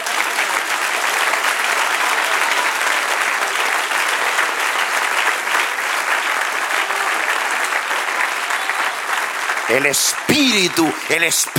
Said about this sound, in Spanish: Si tienes un amén, dale un aplauso a Dios.